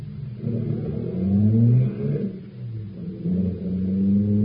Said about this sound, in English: I'll start the car.